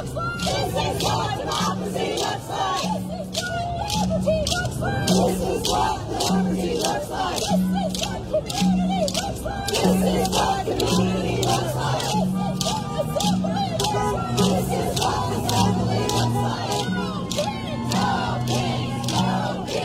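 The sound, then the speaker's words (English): At a protest in downtown Bozeman, a crowd chants loudly and continuously while turned-over plastic bucket drums pound out a steady, sharp rhythm throughout, the hits cutting through the massed voices for the full twenty seconds. “And they got, by the way, they have like these plastic drums that they're using, like turned over buckets.”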